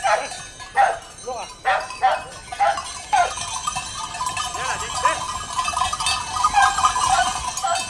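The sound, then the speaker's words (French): A female sheepdog, Flora, barks in short repeated bursts as she runs after and circles the ewes to bring them into the sheepfold, then a noisy flock mix of bleating sheep and clanking bells fills the rest, lively. “Elle court derrière les brebis en aboyant, elle leur tourne autour, elle leur court après jusqu'à ce que toutes les brebis soient rentrées dans la bergerie.”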